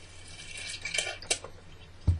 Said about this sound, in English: Let me just grab a drink of water.